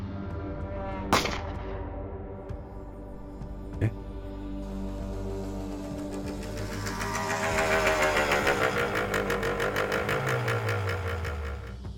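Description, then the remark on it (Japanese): An off-road motorcycle engine revs and builds steadily as the bike sets off toward a mountain hut, growing louder and rougher as it accelerates, with a couple of sharp clicks near the start and a rising buzzing roar toward the end. “回答し、オフロードバイクを山小屋めがけて走り出させたその時。”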